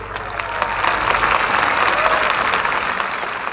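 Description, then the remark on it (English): Sustained applause from a large crowd gathered on the sprawling mall for a preacher's speech, a dense wash of many hands clapping at once, steady and loud for the whole stretch with echoing, open-air acoustics and no speech over it. “More applause.”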